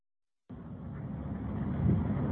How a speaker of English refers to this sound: So you can see this woman looking at her car now that is in this lake because she forgot to put it in park.